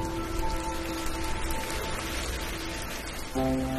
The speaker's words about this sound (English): And then, more than a year after the drought began, and then it rained on the 25th of February, 2020.